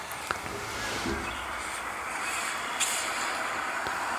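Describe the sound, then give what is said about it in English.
A large bus rumbles steadily in a noisy street, with a couple of short, sharp hisses of air brakes breaking through the engine drone. No one speaks. “All right, play the bus music again,”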